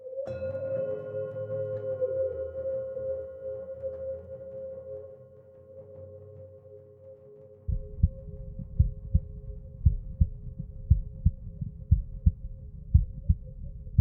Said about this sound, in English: Of all the body's internal rhythms, the heartbeat is the most iconic. It's always captivated authors, poets, and composers. As a percussionist, the lilting rhythm of the heart makes me want to lean into the sound and listen closer.